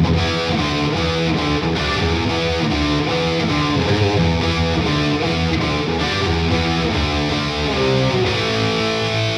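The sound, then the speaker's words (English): A heavily distorted electric guitar plays a dense, driving metal riff with thick, saturated tone, loud and steady throughout with no voices. “in this range, all the way from this to something like this. Into something a little more metal.”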